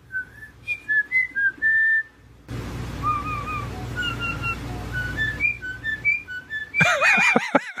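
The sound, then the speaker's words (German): A starling mimics a woman's voice through a run of clear, high whistled notes and chirps over a rough background hiss, ending in a loud, squeaky, voice-like warbling burst. “Das ist die Frau jetzt wieder.”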